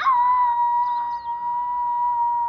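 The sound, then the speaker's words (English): A person howls like a wolf in one long, steady, drawn-out note. The voice is fairly loud, holding a level pitch for a couple of seconds with no talking. “Am I going to be a fine wolf? Look at me howl.”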